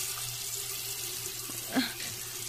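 A kitchen faucet runs steadily into a sink, a continuous hiss of flowing water with a brief splashy bump partway through as a cut, bleeding finger is held under the stream to stop the bleeding.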